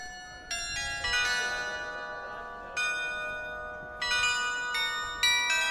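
A carillon of over 30 bells in a building's west gable in Hameln, Germany, rings out a slow melody as small figures showing scenes of the Pied Piper legend come out. Each struck note is sharp and bright with long shimmering overtones that overlap and decay, with no voices.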